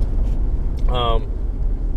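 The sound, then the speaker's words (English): A car rolls over the rough, bumpy roads of a town, a constant heavy low rumble filling the background, with a brief tonal whine rising over it about halfway through. “I apologize for the bumpy roads in my town here, as always, and my crappy car making it sound worse.”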